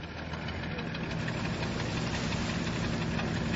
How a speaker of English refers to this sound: This boat is about as far from the modern world as it's possible to get these days. Despite an icy wind, the sun is shining brightly, the air is crisp, and I'm chugging out westwards along the Ural River into the Caspian Sea